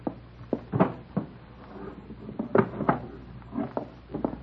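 The bottom drawer of a dresser slides open and shut as someone gets a gun from it, with a handful of wooden clunks and rattles scattered over a few seconds and no voices.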